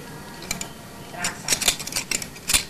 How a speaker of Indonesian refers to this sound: Ini apa sih ini? Ini tante ini apa? Gunting kaki nih, gunting kuku kaki nih. Ini enggak boleh.